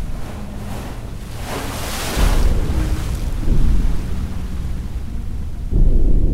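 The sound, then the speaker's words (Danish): Waves crash against the coast of Samsø, Denmark, in a steady, roaring wash, with a bigger breaker surging in around two seconds and another near the end, under constant low wind rumble. No voices. “Bølgerne slår op mod kysten, og du holder hele tiden et vågent øje mod horisonten.”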